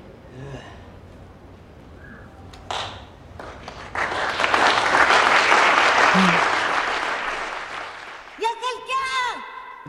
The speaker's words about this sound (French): Ouais, tout le monde applaudit à la fin, c'est chouette. Ouais. Je vous invite à aller voir le teaser parce que cet applaudissement est une blague en fait